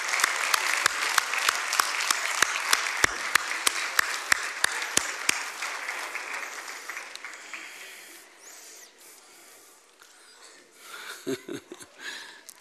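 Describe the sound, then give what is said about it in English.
An audience in a church applauds children as they leave for Kids Church, a dense wash of clapping with a few sharp, distinct claps standing out, gradually thinning and fading away over several seconds, followed by quieter rustling and a brief low murmur. “Give them another hand clap as they go.”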